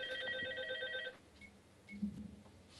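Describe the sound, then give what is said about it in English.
A telephone rings with a rapid, warbling electronic trill of bright stacked tones for about a second, then cuts off, leaving faint low rustling and a brief soft thump. “Left the phone off the hook.”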